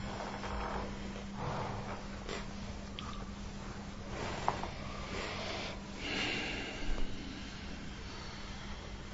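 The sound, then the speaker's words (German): Slow, deep breaths drawn in and let out several times, each a soft, airy whoosh against a faint steady hum, with no talking. “Atmen ein paar Mal tiefer ein und aus.”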